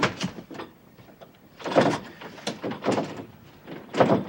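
A door rattles and clunks in irregular bursts as someone fiddles with its lock, with metallic jiggling up close and a few heavier knocks, and no voices.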